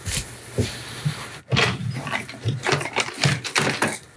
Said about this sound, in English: So sound of drawer opening.